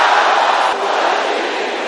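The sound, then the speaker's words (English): A crowd at a church prayer service shouts loudly together in a sustained, dense roar of many voices, holding steady for two seconds with a brief dip partway through. “Can I hear somebody shouting that loud?”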